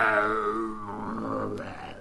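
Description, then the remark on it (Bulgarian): A human voice imitates a tiger's terrible roar: one sustained, rough, throaty growl about two seconds long, sliding gradually lower in pitch and staying loud throughout. “Те, навярно се досещате, че този страшен рев, от който и самата жирафка се разтреперяла, се разнесъл от тигровата й глава.”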